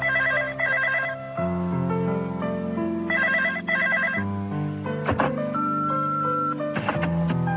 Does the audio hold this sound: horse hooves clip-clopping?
no